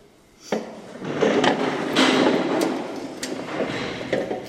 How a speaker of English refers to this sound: As soon as I unlock yellow, I got all my tools out of the exhibit. Their door goes open. Yep. There they go.